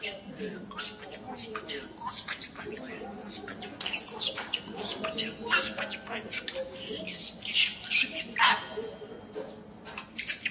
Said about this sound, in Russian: Это попугай.